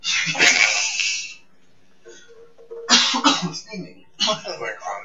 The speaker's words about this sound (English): My coughing into the microphone. That's disrespectful and rude to the audience.